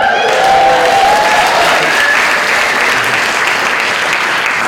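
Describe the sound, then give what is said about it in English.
An audience claps steadily and loudly for several seconds, a dense wash of many hands with no voices rising above it. “And telling by the applause, you all know what we do”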